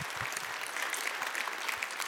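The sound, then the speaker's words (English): A church audience claps together for a woman, a steady dense patter of many hands that fills the whole stretch at an even, moderate loudness with no voices standing out. “Would you give her a round of applause?”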